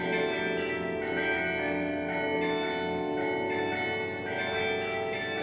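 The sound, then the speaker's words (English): The bells of St. Colman's Cathedral in Cove, overlooking the harbour, peal out the cuckoo song, their bright, sustained tones ringing one after another and overlapping in a rich, resonant wash, heard clearly and steadily with no voices. “The church bells of St. Colman's Cathedral started to ring out their theme song, which was the cuckoo song.”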